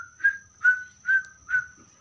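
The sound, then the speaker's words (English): A person whistles an imitation of cricket chirping: four short, evenly spaced high chirps in a steady rhythm, with no other sound or talk. “And then everywhere is quiet. Cricket.”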